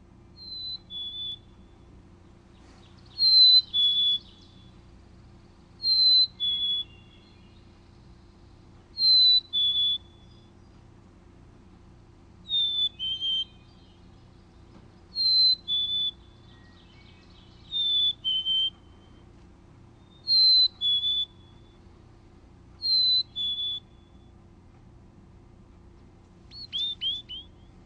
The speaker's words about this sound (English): Well, why don't we hear the black-capped chickadee's Hey Sweetie song, and here it is.